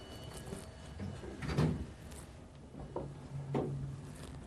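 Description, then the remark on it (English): Sliding elevator doors rumble and clunk a few times as they open on floor 3, with soft mechanical thuds against a low background hum; no one speaks. “Now, the doors to go back open.”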